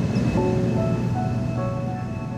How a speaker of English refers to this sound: For decades, the Ormond Beach power plant has contributed to coastal and air pollution. Oxnard's wastewater facility also sits there. No matter where you are on the beach, you can always hear the low hum of industry.